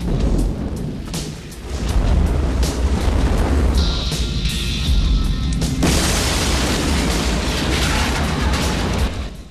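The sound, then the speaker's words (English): A motel, set alight by a lit Zippo lighter thrown inside, bursts into flames with a loud, sudden whoosh that swells into a steady, deep roaring blaze. The roar holds for several seconds, crackling and rumbling, with a thin hiss partway through and no voices. “The place bursts into flames behind him.”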